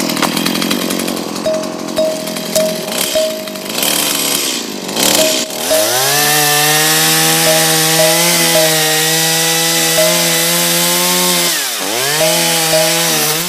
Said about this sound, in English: Why is there a log sitting in our living room? It's a special gift for you. Don't ask me why, but I feel compelled to cut it in half using this chainsaw.